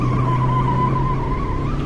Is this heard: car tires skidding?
yes